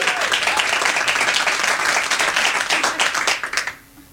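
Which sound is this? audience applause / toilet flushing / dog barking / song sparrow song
audience applause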